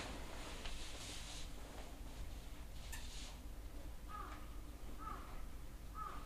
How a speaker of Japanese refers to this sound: 目の前に飛んでいる、今カーカーカーってカラスが飛んでいたのが分かったんですけども